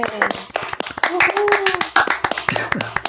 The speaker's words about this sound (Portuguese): Vamos bater palma pro Chibnall? Vamos bater palma Vamos. Pro Chibnall. Palmas, Chibnall.